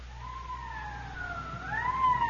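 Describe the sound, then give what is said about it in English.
A police car siren wails in a slow rising and falling sweep over a steady low engine rumble, growing slightly louder as it goes, with no one talking. The police car is running Code 3, with red light and siren, at night. It is answering a holdup and shooting call at Hooper and Esperanza. “Code 3, that means red light and siren.”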